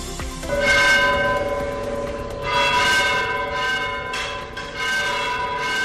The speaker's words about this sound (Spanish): Así sonó la campana de la Torre del Salvador, al igual que muchas de Aragón, como señal de alerta contra la despoblación.